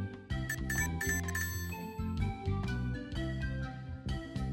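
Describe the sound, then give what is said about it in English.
A rapid series of bright, ringing chime dings with sharp attacks and lingering tones, overlapping one another in an uneven rhythm over a steady low hum, with no talking. “Was I supposed to hear the dings?”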